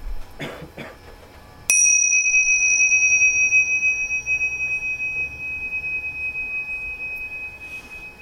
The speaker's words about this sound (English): So keep trying to follow the vibration of the bell and differentiate it from all the sound outside in the room and in the hallway behind us.